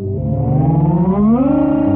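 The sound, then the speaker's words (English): A Mazda RX2 rotary-engine car is switched on and accelerates with its rotors whirring. Its smooth harmonic tone climbs steadily in pitch for about two seconds in a steady, fairly loud drone, with no voices. “If you have a good ear, you'll hear the rotors whirling, then surge away to 100 in 10 seconds.”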